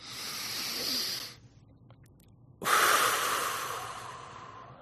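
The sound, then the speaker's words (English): A slow deep breath taken as a breathing exercise: a long airy inhale, a brief pause, then a fuller, louder exhale that gradually trails off. No talking. “Go ahead and take another deep breath right now.”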